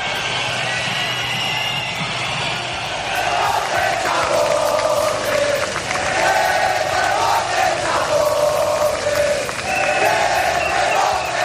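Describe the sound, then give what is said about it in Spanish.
A large crowd at the Día de la Hispanidad events in the streets of Madrid boos Pedro Sánchez loudly and continuously, long overlapping low-pitched jeers swelling and falling in waves over a steady roar of many voices, with scattered shouts mixed in. “A diferencia del año anterior, Pedro Sánchez no hizo esperar al rey para usarlo de parapeto y se comió de par en par los abucheos del respetable.”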